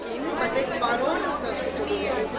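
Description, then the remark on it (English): A dense, buzzing crowd chatter of many overlapping voices at the Feira Planner independent design and literature fair, São Paulo's Museum of Image and Sound (MIS), steady and fairly loud throughout, with no single speaker standing out from the murmur. “Sounds of a buzzing crowd echo that of a packed music festival.”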